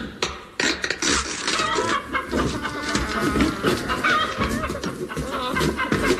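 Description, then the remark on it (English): Several voices imitate clucking chickens, people disguised as chickens while opening crates at an oasis, a busy, overlapping chorus of squawks and clucks that carries on loudly for the whole stretch. “Immediately on arrival at the Oasis, we began to open the crates, having first disguised ourselves as chickens.”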